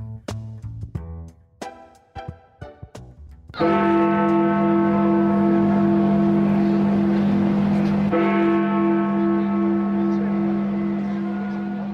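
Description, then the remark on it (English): The Big Ben clock-tower bell tolls twice, marking the formal completion of Brexit, each deep, ringing strike sustaining loudly and overlapping the next. A brief stretch of talking comes just before the first chime. “Almost 100 days since the chimes of Big Ben marked that Brexit was formally completed,”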